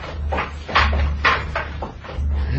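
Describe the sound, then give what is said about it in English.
A door being opened: a few short, scraping creaks and knocks in quick succession, moderately loud, over a steady low rumbling hum. “Open the door.”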